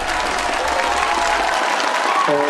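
A crowd applauds steadily, many hands clapping in a dense, continuous wash of noise at a fairly loud level; near the end a faint tonal hum rises beneath the clapping.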